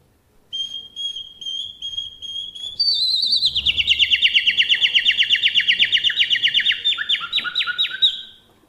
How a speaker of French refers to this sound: Vous avez reconnu le chant du rossignol? Ça, c'est le mâle qui émet ce chant. Et le chant du rossignol mâle se décompose en deux parties. La première partie, ce sont des sons tenus.